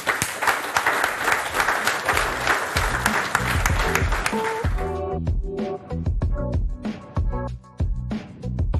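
An audience claps steadily for about five seconds, a dense crackle of many hands, applauding a speaker as he goes to his seat after his talk, before it gives way to a rhythmic music jingle that plays on to the end.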